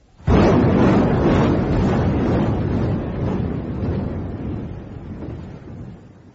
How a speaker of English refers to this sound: And then they were leveled out at 100 feet. and the 250-kilo bombs began to fall, and after 20 months of good fortune, luck ran out for Ulysses.